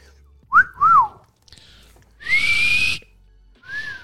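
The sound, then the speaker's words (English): A person whistles: two quick swooping notes, then a longer breathy, airy whistle and one short final note, with no talking in between. “Your whistle sound like it's got ass.”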